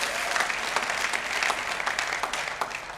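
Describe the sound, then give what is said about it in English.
A church audience claps steadily for a few seconds during a service, a dense, sustained patter of many hands with no voices standing out. “Come on, let's give him a huge round of applause.”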